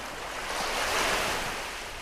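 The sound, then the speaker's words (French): Ocean waves crash onto the shore, a broad rushing surge of surf that swells to a peak midway and then recedes, steady, with no voices. “Les fracas des êtres humains, les fracas des vagues.”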